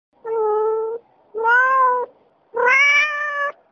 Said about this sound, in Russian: В районе 12 ночи мы услышали под окном знакомое мяуканье, больше напоминающее предсмертные всхлипы.